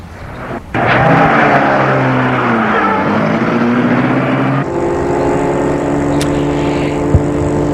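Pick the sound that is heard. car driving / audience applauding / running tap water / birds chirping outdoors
car driving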